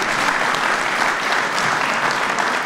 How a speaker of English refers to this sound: Chicago's own Congressman Danny Davis from the West Side. Where's Danny? He was here a second ago. Give him a round of applause anyway.